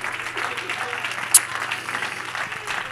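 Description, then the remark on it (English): A standing church audience claps their hands unto the Lord in a steady, dense wash of applause that holds at an even level throughout, with a faint murmur of voices blended underneath and one sharp high click partway through. “Oh, let's stand and clap our hands unto the Lord, shall we?”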